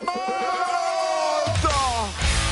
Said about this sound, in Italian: Voi siete lì belli stravaccati sul divano dopo una dura giornata di lavoro e improvvisamente sentite uno che urla.